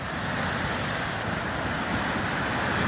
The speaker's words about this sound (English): Tongan authorities issued a tsunami warning for the country's roughly 100,000 residents, and it wasn't long before people started sharing videos of huge waves crashing into the shore of Tonga Tapu, the largest island, under a darkening sky.